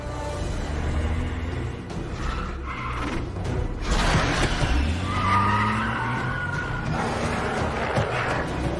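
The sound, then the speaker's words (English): A car speeds past with loud, sustained tire squeals and skidding, the engine roaring throughout and a sharp crash-like burst near the middle. “The creature chases the speeding car.”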